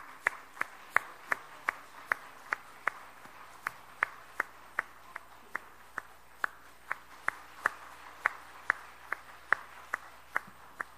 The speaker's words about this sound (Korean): 자, 박수 부탁합니다.